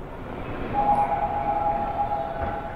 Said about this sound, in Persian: ایستگاه قطار گیونگیدو، مسافرین محترم لطفاً از درهای خروجی فاصله بگیرن.